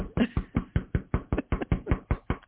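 knocking on a door

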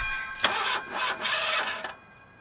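car engine cranking

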